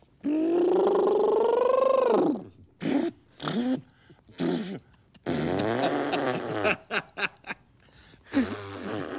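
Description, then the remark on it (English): A person imitates an elephant's trumpet with a long, loud, brassy blare that rises and falls, followed by a series of shorter honking and sputtering bursts. “Everybody has a different sound for an elephant.”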